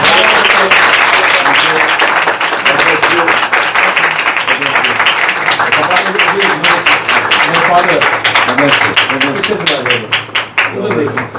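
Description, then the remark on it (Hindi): A large audience breaks into loud, sustained applause, dense clapping filling the whole stretch of about eleven seconds, with a few voices mixed in before it starts to thin slightly at the end. “आपकी भरपूर तालियों में”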